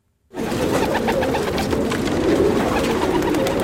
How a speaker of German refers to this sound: Diesen Tauben geht es gut. Noch. Sie sitzen auf dem Dach des betreuten Taubenschlags am Bahnhof Südkreuz, eine Metallhütte in einem winzigen Garten hinter Zaun.